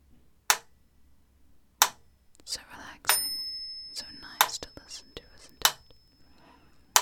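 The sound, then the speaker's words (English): A single bell rings out and its bright tone lingers for over a second, set against slow, sharp ticks spaced about a second apart, with soft whispering in between. “Listen for the bell.”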